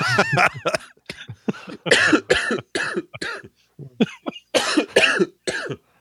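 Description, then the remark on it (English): A loud fit of coughing mixed with laughter, a rapid string of harsh bursts in uneven clusters across several seconds, with short gasping pauses between them. “I love the laugh cough.”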